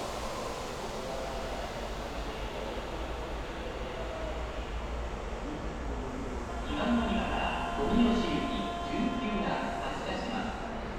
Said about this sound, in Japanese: この電車は富吉行き準急です。次の蟹江で津新町行き普通電車に連絡いたします。次は蟹江に停まります。